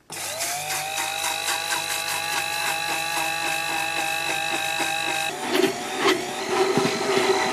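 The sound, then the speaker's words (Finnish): A small electric mixer whirs steadily at a high pitch with a strong mechanical hum as oil is blended into mayonnaise in a bowl, then its tone shifts and turns rougher and more uneven as it keeps churning, with no talking over it. “Noniin, nyt no niin, nyt lähtee öljyt sinne ja pidän mä tästä kiinni vai? No jos joo, niin sitten se ei lähde pyörimään.”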